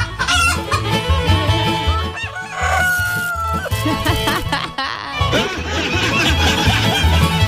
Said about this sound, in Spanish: ¿Dónde están las gallinas? ¿Dónde están las gallinas? Oye, las gallinas son súper apañer. Las gallinas, el gallo, todo aquí.